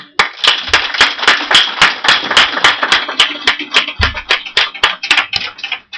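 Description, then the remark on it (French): In the morning, an audience applauds those who have stood up, together in a steady, sustained burst of clapping. A few sharper individual claps stand out as the applause continues loudly for several seconds before tapering off. “Et je crois que ce matin, on peut applaudir ceux qui sont levés, parce que Dieu va faire quelque chose dans leur vie”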